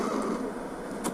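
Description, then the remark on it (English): A turkey vulture (turkey buzzard) calling, a steady breathy hiss that holds for about a second with a brief sharper rasp near the end, fairly loud with no voices. “That's the sound of the bird, turkey buzzard.”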